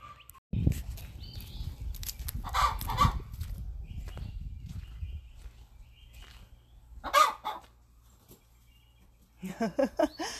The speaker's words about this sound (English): She's in there cackling. I've got happy chickens. Every time they lay an egg, they want to tell the whole world they just laid an egg and how awesome they are.